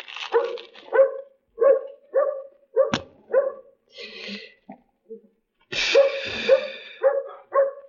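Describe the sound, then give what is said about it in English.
A dog barks repeatedly, loud sharp yaps in an uneven series with brief pauses, ending in a quicker burst of several barks; no one speaks. “Hey, dog. You got a friend for me?”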